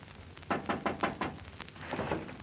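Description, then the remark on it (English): A quick series of about five sharp knocks on the casting office window of the Tech Art Studio on Melrose Avenue, fairly loud, followed by a few softer, scattered taps. No voices are heard. “And that's the casting office window. You'll have to knock.”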